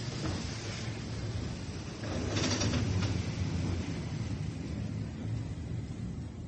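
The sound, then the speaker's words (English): A train rolls into a station with a steady low rumble and a hiss of brakes rising briefly in the middle, then settles into a continuous mechanical drone; no one speaks. “Isn't that the train now?”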